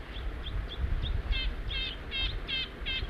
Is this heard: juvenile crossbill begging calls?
yes